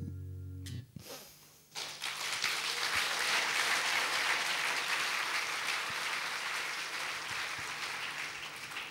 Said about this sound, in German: Ich werde das Auftrittsprotokoll der Kapelle vorlegen, da wird da stehen, rasender, nicht enden wollender Beifall.